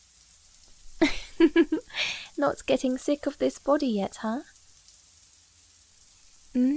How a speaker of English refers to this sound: I can't believe this is the first time we're showering together in the new place.